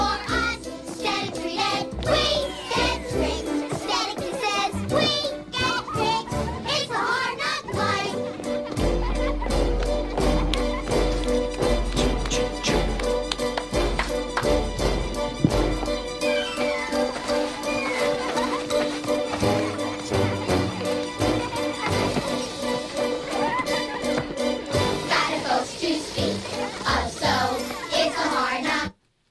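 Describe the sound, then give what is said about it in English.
A chorus of children sings a lively show tune over full instrumental backing, with sharp rhythmic clanks and stomps punctuating the beat; loud and continuous for about half a minute. “I love that song. We had to stop that there”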